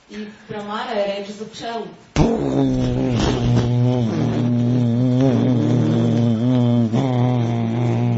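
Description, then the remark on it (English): After a brief stretch of voice, a person chants the syllable Om as a loud, steady, low hum imitating a buzzing bee, in the practice called Brahmara Japa. The hum holds continuously for about six seconds, resonant. “Brahmara is the bee.”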